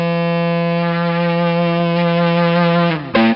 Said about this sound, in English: forth across one string, wave it across the strings, slide it to and from the pickup, or just hold the Ebo over one string for infinite sustain.